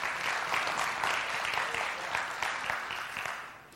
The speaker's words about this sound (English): But we've not only been loved by God, and this rain is just another picture of it, right? I love to hear that rain on the roof.